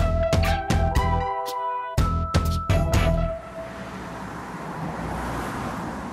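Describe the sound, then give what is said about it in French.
A quick run of sharp, ringing tonal hits gives way to a steady wash of street noise on Vulkanstraße, a red-light district street in Duisburg, western Germany, with the low rumble of traffic rolling by. “Nous sommes dans la Vulkanstraße à Duisburg, c'est dans l'ouest de l'Allemagne.”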